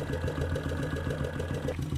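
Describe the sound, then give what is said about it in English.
A running engine idles steadily, its deep, even pulsing thrumming and resonating hollowly all the way up through the carburetors into the airbox, with no one speaking. “I don't know if you can hear the air, but you can definitely hear the sound of the engine resounding all the way up through the carburetors into the airbox.”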